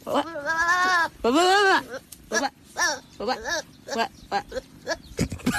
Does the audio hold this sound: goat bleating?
yes